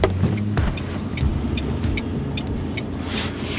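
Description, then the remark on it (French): A car engine rumbles, low and steady, as the vehicle rolls in and comes to a stop at an old café where filming will take place, with a few light clicks and rattles over the hum and no voices. “On arrive au niveau du café, où aura lieu le tournage.”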